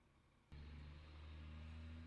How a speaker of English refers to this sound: It begins with a truck sound.